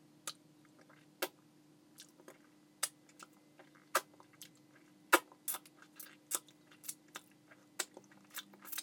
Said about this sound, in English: Now watch me as I open my mouth and stick out my tongue and lick all around your tip.